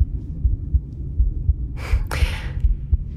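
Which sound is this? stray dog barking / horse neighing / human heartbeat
human heartbeat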